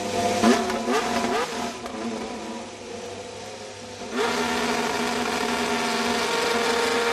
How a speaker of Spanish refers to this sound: sabemos la fecha en la que veremos el AMR 25, el coche de Alonso, que es el 23 de febrero, pero ya tienes el sonido del motor, ¿no? Del nuevo coche. Lo han arrancado hoy en la fábrica de Silverstone. Vamos a escucharlo.